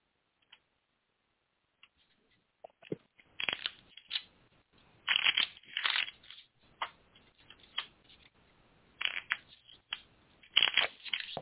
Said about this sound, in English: All right. We can shuffle cards and see what they have to tell us.